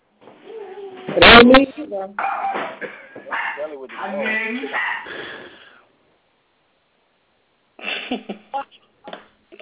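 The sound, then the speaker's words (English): A dog barks in short, sharp bursts, one loud bark followed by a string of yelps and whines, then a few quicker barks after a brief pause, with muffled voices mixed in. “What the dog? The queen of background noise is back, honey, that's so we're going to have an issue.”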